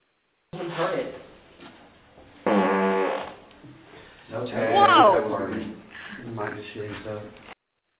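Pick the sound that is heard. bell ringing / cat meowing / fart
fart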